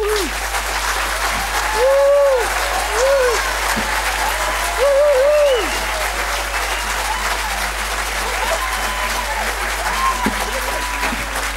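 Sustained audience applause at a debate, given as a vote for the side arguing that communities are out of control, a dense, steady wash of clapping lasting throughout, with a few cheers and whoops rising above it at moments.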